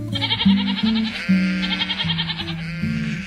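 Several purebred Romanov sheep, obtained from the Czech Republic, bleat loudly, their wavering, quavering calls overlapping one after another without pause for a few seconds, with no talking.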